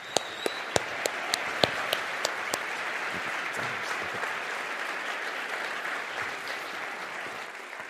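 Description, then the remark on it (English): A crowd applauds steadily and fairly loudly to welcome speaker Dr. Alister McGrath, with a few sharp individual claps standing out near the start before the clapping blends into a dense, sustained wash. “So, without further ado, it is with deep gratitude I ask you guys to give a warm round of applause and welcome Dr.”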